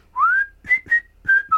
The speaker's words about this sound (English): If there's not, then you'll hear me whistling awkwardly. Do I record a whistle? Yeah, go on then.